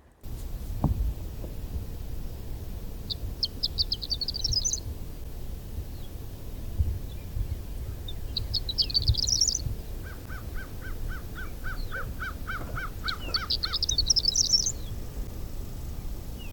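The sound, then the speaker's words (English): A songbird sings three short, bright, fluttery phrases spaced several seconds apart, with a lower rapid run of repeated notes near the end, all over a steady low outdoor rumble. “And yeah, it gives really makes me feel the way I feel like when I'm listening to a wood thrush or a hermit thrush.”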